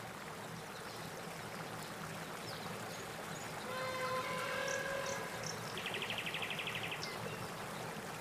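nature, flowing river water

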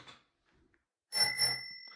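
signal or alarm, bicycle bell ringing

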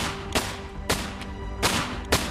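sound effect, five gunshots

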